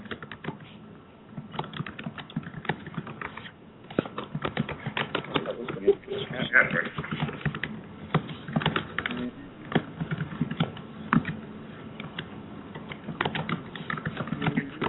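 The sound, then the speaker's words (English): Steady, rapid clicking of keys on a computer keyboard, fairly clear, continuing throughout with brief irregular pauses and a faint background hum. “Oh, is that you typing?”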